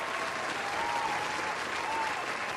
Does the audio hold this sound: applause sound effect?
yes